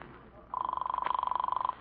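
A telephone, called from a phone booth, rings once on the other end of the line, a thin, rapidly trilling electronic buzz lasting just over a second, heard alone against faint line hiss.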